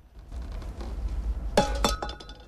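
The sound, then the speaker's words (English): A metal can is kicked and clatters across a hard floor: two sharp, bright clanks in quick succession with a brief metallic ring, over a low background rumble. “He looks sheepishly at the men after kicking a can on the floor, then carefully reaches for the door handle and, after a final nod to the men, pulls the door slowly open.”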